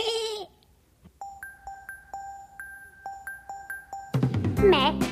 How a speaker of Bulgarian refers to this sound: Ме, козлето Бот съм аз.